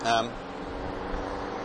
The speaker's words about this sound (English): so you can hear the traffic noise as I'm walking along.